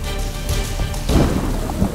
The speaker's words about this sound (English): Oh yeah, suspenseful music and then lightning and thunder.